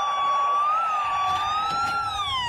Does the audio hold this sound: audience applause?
no